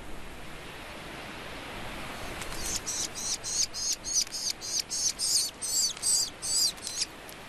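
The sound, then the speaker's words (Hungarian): Kestrel chicks on the puszta calling insistently while being fed, a rapid series of about a dozen shrill, raspy begging calls in a steady rhythm, over a soft background hiss. “A fiókákat leginkább a reggeli és a késő délutáni órákban etetik.”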